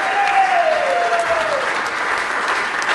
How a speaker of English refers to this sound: So, wow, that was unbelievable. That was phenomenal. Round of applause.